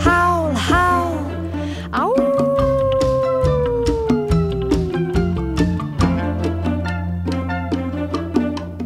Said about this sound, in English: Little wolf, noisy as can be. I hear you, can you hear me? Yes, I hear you howl when you start to prowl.